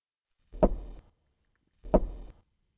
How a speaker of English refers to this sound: Well, what's that knocking noise? Oh, sorry, old fella, didn't mean to alarm you, just emptying out my pipe.